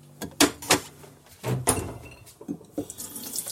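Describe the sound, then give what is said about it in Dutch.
While cooking, a refrigerator door is pulled open and pushed shut as the rest of the butter is put back in, with a few sharp clunks and rattles spread over a few seconds and a soft rushing hiss between them. No one speaks. “De rest van de boter steek ik terug in de koelkast.”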